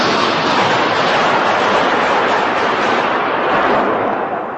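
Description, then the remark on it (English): Gunfire from a gunman exchanging fire with security officers in the main Parliament building on Parliament Hill, about 10 a.m., echoing through the chambers; the reports blur into a loud, continuous, rumbling roar that holds steady for several seconds before easing slightly at the end, with no voices. “He exchanges gunfire with security officers.”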